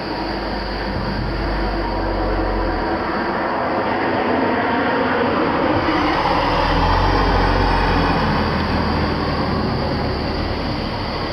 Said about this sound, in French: Ah, revoilà une voiture.